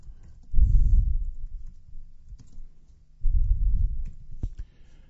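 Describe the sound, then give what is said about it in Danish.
Typing on a computer keyboard to make a bulleted list with asterisks and spaces, with two short bursts of muffled, thumping keystrokes and a few sharper clicks in between, and no one talking. “Jeg skriver her”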